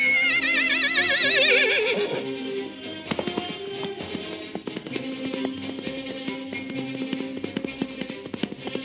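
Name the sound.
frightened horse neighing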